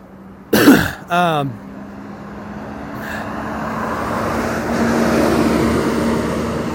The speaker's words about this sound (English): Ooh, that was a bus. Extra loud.